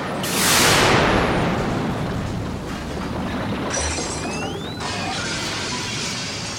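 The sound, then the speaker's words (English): A pod crashes through a building and lodges in another building: a loud crash of smashing and shattering debris erupts, then a long rumbling clatter of breaking material and scattered glass tinkles continues, with a brief second impact partway through. “We crashed through a building and then lodged ourselves in another building.”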